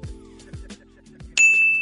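A bell is rung once on the radio morning show Truth in the Morning on 101.7 FM The Truth, signalling lateness for work; its bright, high ring sustains steadily after a few low, deep thumps from a beat in the background.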